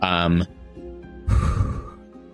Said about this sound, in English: … just kind of gasps and like falls to her knees and like onto her hands and is just breathing hard